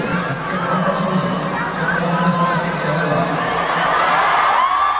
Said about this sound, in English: I'm going to play this, but you're not going to understand what's happening because it's in Spanish, but listen to the crowd reaction to what he says.